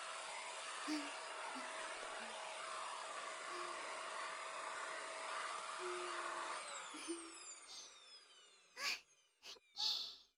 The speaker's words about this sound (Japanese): よーし、掃除機おしまい。